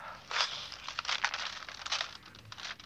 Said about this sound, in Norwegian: Men har du tatt inn posten i dag? Ja, jeg har ikke åpnet. Ta oss og åpne den digre brune konvolutten som ligger der.